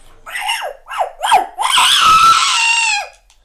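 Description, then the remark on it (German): A dog gives a few sharp yelps in quick succession, then breaks into a long, loud, high-pitched whimpering cry that holds for over a second before stopping. “Oh, mein Hund.”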